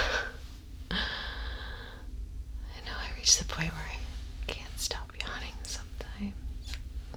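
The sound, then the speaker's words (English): A drawn-out, breathy yawn, followed by soft, intimate whispering and faint breaths. “Yawn. I know they're contagious.”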